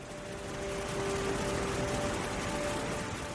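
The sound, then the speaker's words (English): A steady, even rush of cold, clear falling water, like a small waterfall or heavy pour, fading in softly and holding a constant hiss, with a faint sustained hum of tones underneath. “the sound of the cold, clear water falls around you”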